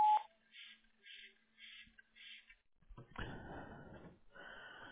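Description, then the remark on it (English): A single short electronic voicemail beep, the tone at which a caller records a message, rings out clearly at the very start, followed by a string of softer repeating pulses and then a burst of rough, crackly noise. “At the tone, please record your message.”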